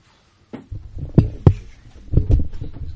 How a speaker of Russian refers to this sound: Вот дверь не мешает? Я сейчас и закрою.